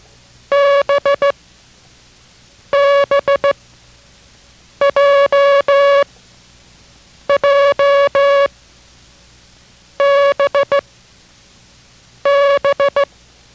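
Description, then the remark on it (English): Six groups of Morse code sent as a steady mid-pitched tone, each a quick cluster of short and long beeps with pauses between characters and no talking. “We're going to send that group of characters, and while you're watching your copy, concentrate on the sound of each of these characters.”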